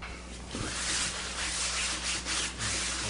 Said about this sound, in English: Note how professionally he cleans the chair.